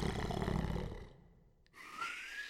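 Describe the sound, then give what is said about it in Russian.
Baba Yaga snores mightily in her hut, the sound carrying through the forest: a loud, deep rumbling snore on the inhale, then a brief pause before a thinner, whistling breath out. “Вскоре по лесу разнесся ее могучий храп.”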